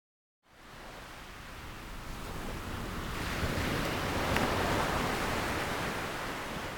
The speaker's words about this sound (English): Let's meditate now to Get Sleepy to the Sound of Rain